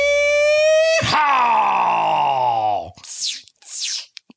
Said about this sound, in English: What was that sound? A water pistol. It's summer. There it is.